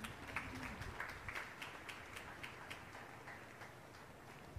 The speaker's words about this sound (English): Can we render a clap offering once again?